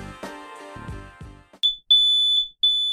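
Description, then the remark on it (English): A smoke alarm lets out three loud, piercing high-pitched beeps in a steady rhythm, following a brief burst of music that cuts off abruptly. “A smoke alarm can save your life, but not if it's silent.”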